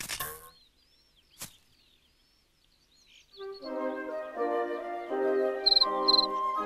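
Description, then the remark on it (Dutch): A large cricket chirps by rubbing its wings together, two short, bright bursts near the end, over sustained, stepping musical tones that rise after a quiet opening with a single sharp click. “Welkom, chirpte een grote krekel en wreef met zijn vleugels langs elkaar.”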